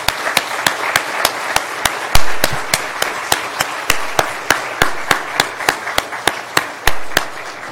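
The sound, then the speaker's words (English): An audience at Zion Baptist Church applauds four college graduates, with loud, sharp claps landing in a steady, even rhythm, about three per second, over a continuous wash of softer clapping noise. No one speaks. “Let's give these four college graduates a round of applause.”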